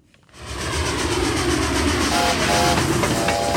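A train rumbles loudly with a rhythmic rattle of wheels, and a faint high whistle tone joins in over the last second or so. No one speaks.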